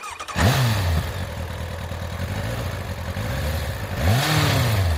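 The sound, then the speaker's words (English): A motorcycle engine fires up with a clattery start, then revs loudly several times, pitch rising and falling in surges over a steady idle rumble, with no one talking. “So let's go ahead and start this thing up.”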